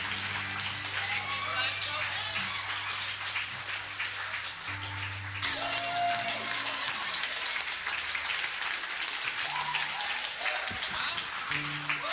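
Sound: audience clapping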